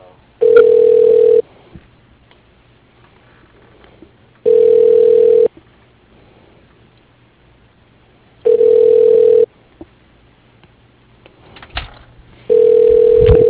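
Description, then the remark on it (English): A telephone rings four times, each steady, mid-pitched electronic tone lasting about a second, with roughly three seconds of quiet between rings. The sound is thin, like a ring heard over a phone line. “Phone rings.”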